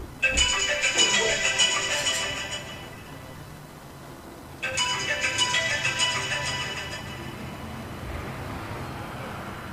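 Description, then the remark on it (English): A phone ringtone rings twice, each bright, jangly burst lasting a couple of seconds and fading out before the next begins, fairly loud with a faint background hum. “Yo, Blaze, come get this phone, bro.”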